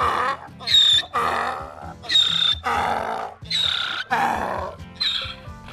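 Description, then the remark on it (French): A donkey named Nougat, on a hike along the GR70 Stevenson trail in France, brays loudly, a harsh, rasping hee-haw repeated in about five rhythmic cycles, each alternating a high squealing pull with a lower grinding push. No voices are heard. “Sur le chemin de Stevenson, c'est un voyage littéraire, à travers les monts et les mots, avec un âne, évidemment.”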